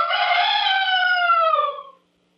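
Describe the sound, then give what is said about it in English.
A single loud rooster crow, clear, holding a long drawn-out harmonic call for about two seconds before trailing off into silence, with no other sounds around it, in an advertisement for Big Ben and Baby Ben alarm clocks by West Clocks. “Oh, by the way, no trade-ins on used roosters.”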